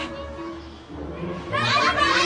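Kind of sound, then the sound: crowd, children making noise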